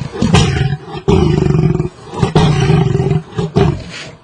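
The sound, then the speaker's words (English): A deep, growling roar like an angry lion, repeated in several heavy bursts with strong low-end rumble and harsh texture; it's a normal glottal cat sound slowed down with the low end highlighted in a University of Miami audio lab, loud, with no talking. “We took that sound and were able, the University of Miami has an audio lab, we were able to slow this down and to a much slower pace and also to highlight the low end, and this is what it sounds like.”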